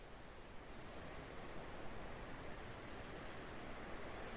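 Steady, rushing surf noise with a soft, continuous wash of ocean waves, no distinct breaking swells, holding an even level throughout with no voices.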